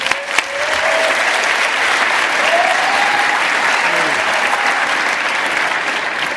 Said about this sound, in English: So if you could give him a quick round of applause before he introduces everybody, that'd be great. Thank you.